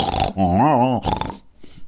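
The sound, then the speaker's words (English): A person imitates a pig whimpering while dreaming in its sleep: a short, wavering nasal whine, followed by a couple of soft snuffling, snort-like breaths. “They'll like make a noise and they'll kind of whimper a bit when they're asleep.”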